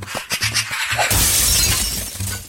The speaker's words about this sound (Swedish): Det måste ha varit en skata. Det är absolut en skata.